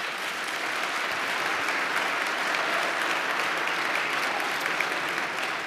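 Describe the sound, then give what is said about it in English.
Sustained audience applause at a hearing, following a question about taking down altered and fake videos, a dense steady wash of many hands clapping at even loudness for several seconds with no voices standing out. “That's the first time I've ever gotten applauded.”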